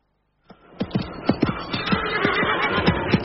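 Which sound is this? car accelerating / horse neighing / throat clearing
horse neighing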